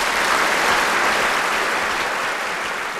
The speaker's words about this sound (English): The curtain falls. The audience claps.